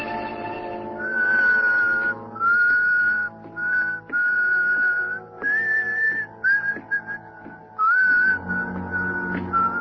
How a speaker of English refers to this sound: Remember my whistle, huh?